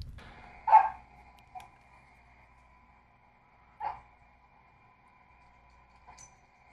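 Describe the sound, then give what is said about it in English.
A Yorkshire terrier, running around and zooming, barks in short, sharp yaps spaced a few seconds apart, two louder barks followed by softer ones, with a faint low rumble early on and no talking. “Speaking of which, I have a video of their bark.”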